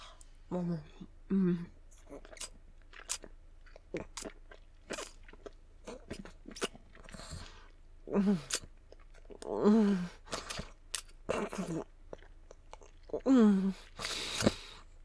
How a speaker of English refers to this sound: And then I'm gonna swallow down hard all around you, constrict it deep with hard swallows, repeatedly, like this.